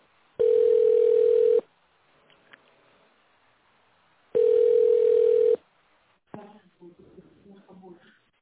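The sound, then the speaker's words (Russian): Two loud, steady ringback tones over a telephone line, each lasting about a second with a long pause between, followed by clicks and faint muffled sounds as the call connects. “Должен дозваниваться. Оставайтесь на линии.”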